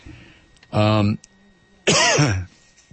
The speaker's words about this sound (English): excuse me again. I'm sorry. There's just nothing I can do. Nothing I can do about this cough.